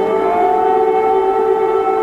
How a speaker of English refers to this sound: Air raid sirens sound in Ukraine's capital city, Kyiv. Another pre-dawn Russian air assault, the third in a week.